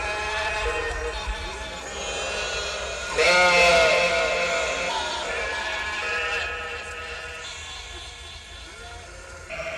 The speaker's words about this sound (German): In einem der Container hörte man ein Konzert von 200 Schafen.